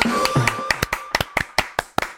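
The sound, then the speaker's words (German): Brief, sparse clapping: about a dozen sharp, loud claps in an uneven rhythm, with a faint tonal hum under the first half and no voices. “Hey, Applaus.”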